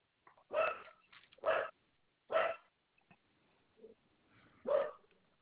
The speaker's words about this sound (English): I'm sorry, it's my dog barking.